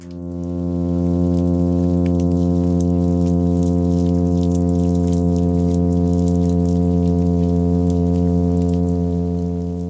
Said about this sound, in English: This is the sound of a midshipman fish during a summer's evening,